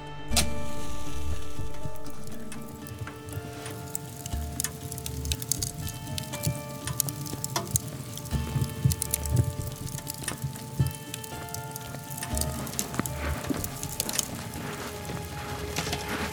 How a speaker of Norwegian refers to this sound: Han krølla sammen avispapir, plasserte det på en strategisk plass og tente på.